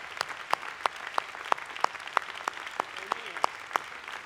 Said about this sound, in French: L'audience s'est levée pour applaudir le frère Billy Paul.